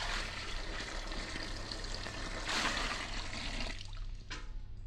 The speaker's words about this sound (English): And the final ingredient, 1 gallon of water from Niagara Falls.